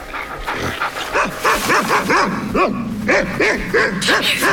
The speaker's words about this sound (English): The boys turn in fright as two large black dogs bound up behind them.